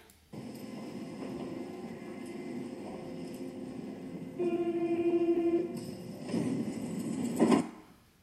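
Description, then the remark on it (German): A train in a train simulator video game, driving from Baden to Basel SB, runs with a steady mechanical rumble; midway a sustained tonal whine or horn-like note rises over it, followed by a few clunks before the sound cuts off abruptly. “Also, fahre mal ein Zug von Baden nach Basel SB.”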